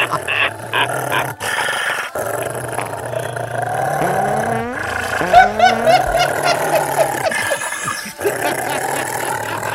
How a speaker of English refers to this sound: Stop the dog. Dog's too loud. Well, the dog's too loud.